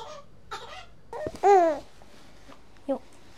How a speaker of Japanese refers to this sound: ちょっとおちびちゃんがぐずっているので、あやしながら、本当は洗濯物を畳みながら撮りたかったんですけど、おちびをあやしながらお話をしていきまーす。